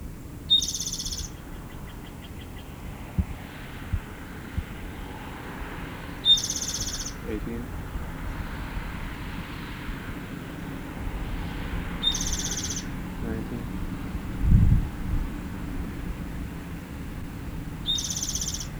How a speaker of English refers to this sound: The same bird. 21. I missed about 3 or 4 songs. 22. It moved because I approached too close. It had been on a small oak. Now I can't see it.